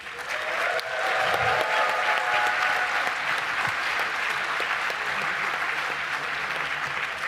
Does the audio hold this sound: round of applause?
yes